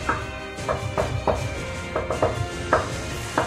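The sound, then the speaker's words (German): Quiet hammering, about ten light knocks in an uneven rhythm, some landing in quick pairs, over a low steady background rumble with no voices; the hammering comes from a blockhouse whose door stands open. “Und ihr kommt im Blockhaus an und ihr steht alle vor dem Blockhaus, die Tür steht offen und ihr hört ein leises Hämmern.”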